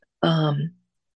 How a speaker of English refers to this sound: Excuse me one second, I have to clear my throat. Okay, sorry about that.